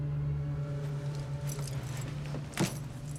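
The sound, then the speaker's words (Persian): Keys jangle in a couple of short metallic bursts, the last one brighter and louder, over a steady low hum like an idling car engine. No one speaks. “این کلید خودمه. منظورت چیه؟ کلید خودته؟”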